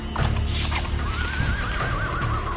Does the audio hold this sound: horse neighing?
yes